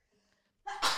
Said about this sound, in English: I have to sneeze.